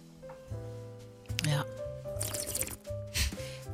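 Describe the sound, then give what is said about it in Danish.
Greenlandic water pours and splashes into a glass in a few short gurgling bursts, with a steady voiced hum and background voices underneath. “Må lige bære noget mere grønlandsk vand.”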